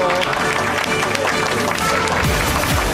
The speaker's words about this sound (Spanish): Un aplauso.